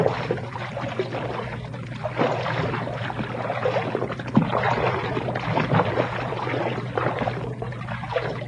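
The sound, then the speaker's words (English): Steady splashing and sloshing of water as someone wades slowly through a river about a foot deep, with occasional louder splashes from steps. Fairly loud, with no voices. “Slip off your shoes. I want you to check something with me, so come on. The water's only about a foot deep.”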